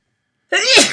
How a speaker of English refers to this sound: I'm going to sneeze.